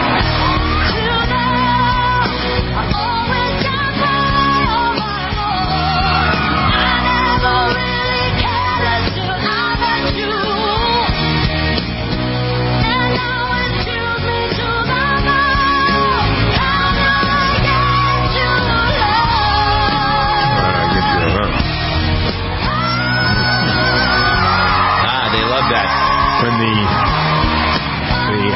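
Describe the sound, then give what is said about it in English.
A contestant on a TV singing show belts a powerful, loud vocal in a duel, with sustained, soaring notes and strong vibrato over full instrumental backing, continuous and intense for the whole stretch. “The screeching, some people call it.”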